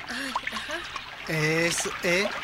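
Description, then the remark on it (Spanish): A steady trickle of river water runs in the background while people talk, their voices louder than the gentle flowing water, as they wade across the river barefoot, stepping on the large stones. “¿Por qué tú no puedes cruzar bien por el río?”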